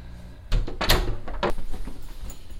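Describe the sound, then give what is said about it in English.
A closet door is pulled shut: a couple of quick knocking clunks and a rattle, ending in a firm thud, with quiet room noise afterward. “I'll slip this jacket on here. Close the door.”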